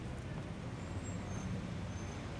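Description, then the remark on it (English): A steady rumble of a car on the road, a low engine and tyre noise holding at an even, moderate level throughout, with no voices. “Oh, a car.”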